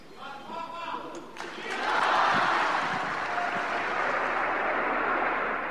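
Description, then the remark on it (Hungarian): At the end of an audience, a large crowd bursts into sustained applause and cheering, building from scattered voices into a loud, dense wash of clapping and joyful shouts that continues steadily to the end. “A tapsvihar és az öröm újongás ma sem maradhatott el az audiencia végén.”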